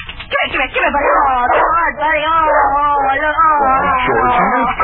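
A dog, Bunny, yips and barks excitedly at the back door, its high, wavering cries running almost without pause and blending into whines over about five seconds.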